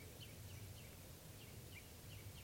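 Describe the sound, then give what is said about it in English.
Faint, rapid chitter notes from perched birds repeat in a quick, uneven series over a steady hiss of outdoor background noise, with no voices present. “Recording, the birds are just perched here for a long time, giving alarm calls to each other, and now they're giving chitter notes.”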